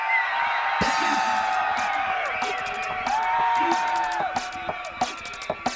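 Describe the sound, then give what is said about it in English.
A crowd at a fifth-anniversary party gives a loud, sustained roar of cheering and high whoops, with sharp scattered claps and shouts rising above the din throughout. “Where's the noise, Sorrento?”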